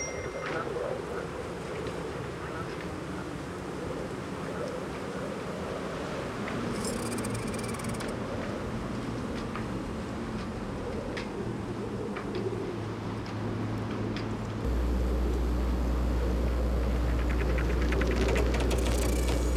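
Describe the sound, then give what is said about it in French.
A steady ambience aboard a lightship at sea, where eight men keep the light running day and night: wind and water wash over a low mechanical rumble, which swells into a louder, deeper engine drone for the last few seconds. “À bord du bateau feu, 8 hommes contrôlent jour et nuit la bonne marche du phare.”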